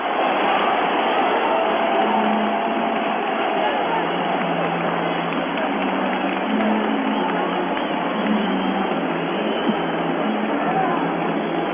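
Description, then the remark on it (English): A basketball arena crowd roars during a Lakers timeout in a game against the Hawks, a loud, steady, unbroken wash of massed voices for the whole stretch, with a muffled, narrow-band tone and no single voice standing out. “The Lakers call a timeout and listen to this crowd.”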